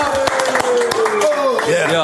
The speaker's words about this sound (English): Clap your fucking hands. One, two, three.